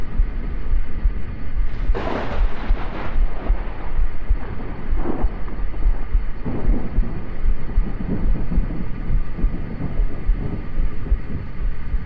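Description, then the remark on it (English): A steady, heavy rumble fills the air, broken by a sharp, crackling burst early on and a few softer surges afterward, like thunder rolling through a storm. No one speaks. “The storm finally seems to be passing”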